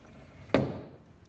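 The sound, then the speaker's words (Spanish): A drawer slides shut with a single sharp wooden knock that rings briefly and fades, in a home in Taxco, Guerrero, against quiet with no voices. “El de los cajones,”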